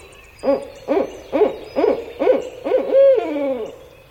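A barred owl hoots loudly, a run of six rhythmic hoots ending in a drawn-out, descending call, with no voices present.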